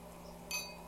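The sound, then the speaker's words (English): A single bright clink of drinking glasses tapping together in a toast, short and ringing, against a quiet low hum with no talking. “Here's your glass.”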